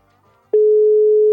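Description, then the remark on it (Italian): After a brief near-silent moment, a loud, steady ringing tone of an outgoing phone call starts abruptly and holds at one pitch through the end, clear with no voices over it. “Sta chiamando? Eh sì, normale, dovrebbe squillare il tempo che si aggiungono, che si aggiungono tutti i file.”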